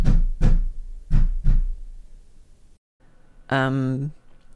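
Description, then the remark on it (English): Four firm, evenly spaced knocks on a door at 3 a.m., followed after a brief pause by a short burst of a voice. “Who the fuck is knocking on my door?”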